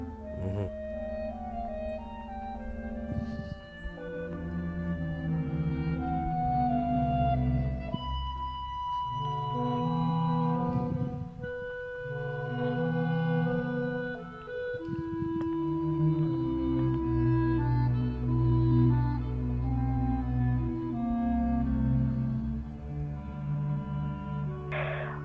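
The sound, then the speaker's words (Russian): An orchestra opens an opera with slow, sustained chords and low, brooding string tones, holding a steady, heavy texture that swells slightly and never pauses, with no voices. “Вот сначала хочу, чтобы мы услышали первые звуки. Никаких увертюр, никаких там больших развернутых вступлений, ничего.”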